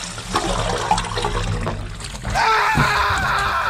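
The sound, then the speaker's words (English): Water splashes and rushes in a warm, lathery bath, a steady churning wash that swells louder partway through and continues full to the end. “Nice warm bath. Massive lather engulfs him.”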